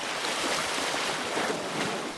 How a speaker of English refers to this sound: In nearby Rosetta, the Nile finally gives way to the sea. The sound of water lapping against the rocks is a quiet ending to a long story, the longest of its kind.